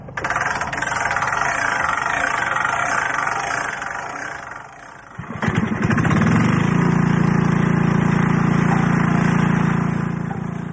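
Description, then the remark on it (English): Generators at a hilltop radio contest site in Surrey, among erected aerials, run with a rough, rattling engine rumble, then a brief clunk gives way to a loud, steady, low-pitched droning hum that holds to the end. “So to a hilltop site in present-day Surrey, amidst a welter of generators and erected aerials, to learn from the descendants of Clerk Maxwell and Hertz, in a tent.”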